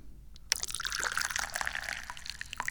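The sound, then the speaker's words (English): Tea pours into a cup in one steady stream, a bright splashing trickle that starts abruptly and runs for a couple of seconds without pause. No one speaks. “So what am I doing? I'm pouring tea.”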